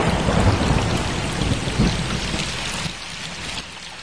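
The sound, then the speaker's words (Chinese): Low, rolling thunder follows a flash of lightning and rumbles through steady heavy rain, loudest in the first few seconds before easing into a softer wash of rainfall. No voices are present. “快捂住耳朵，马上就要打雷了。”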